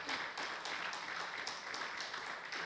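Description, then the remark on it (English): An audience applauds steadily, a dense wash of many hands clapping at even loudness, with faint rhythmic accents emerging roughly every quarter second throughout. “Give him a clap.”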